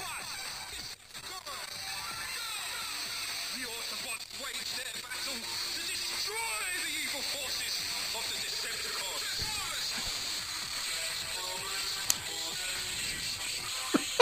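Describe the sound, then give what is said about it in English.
A talking electric toothbrush plays muffled, tinny voice audio from its tiny speaker, two minutes of audio meant to play while brushing teeth, running continuously over a steady hissing buzz at a low, even level, with a couple of sharp clicks near the end. “This is a bloody toothbrush. It has two minutes of audio that it plays as you're brushing your teeth.”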